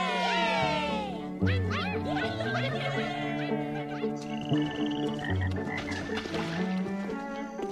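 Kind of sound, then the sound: animal, frogs croaking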